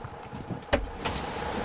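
car door being opened

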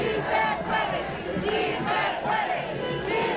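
protest crowd chanting

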